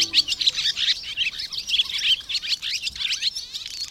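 A barn swallow chatters continuously in a rapid, twittering stream of high, scratchy chirps and warbles, steady throughout, with no voices present.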